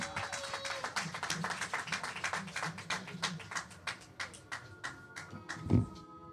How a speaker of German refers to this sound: Gebt mir nochmal einen ganz herzlichen Applaus